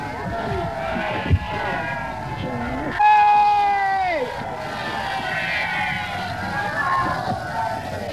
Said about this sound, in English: Now, if you wanted to see a British crowd in real enthusiasm, you've heard that one.